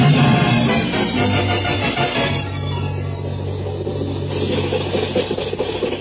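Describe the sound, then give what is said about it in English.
The motor of an old truck being driven by the characters Lum and Abner chugs steadily, with a low droning rumble and a slightly uneven, rough edge running throughout, no voices over it. “The motor sounds kind of cute. Just listen to that.”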